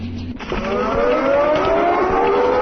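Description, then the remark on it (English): A computer game's helicopter landing on a base: a loud, steady mechanical drone with a whining tone made by the windows, climbing slowly in pitch, starting after a brief low hum, with no one speaking. “Now, the helicopter is landing, and it's the windows making that noise, and soon we'll be in episode 2.”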